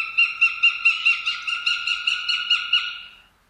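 A northern goshawk calls alone, a rapid, harsh run of about a dozen ringing kek notes, loud, keeping a steady rhythm for roughly three seconds before stopping.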